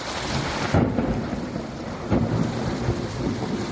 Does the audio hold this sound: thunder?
yes